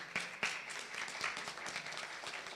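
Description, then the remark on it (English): A crowd applauds steadily, many hands clapping in a dense, even patter with a few sharper claps standing out near the start. Nobody speaks over it. “At this time, I'd like to acknowledge, you need to clap for that.”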